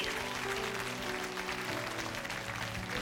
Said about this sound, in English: God bless you. Give them a great big clap offering, would you please?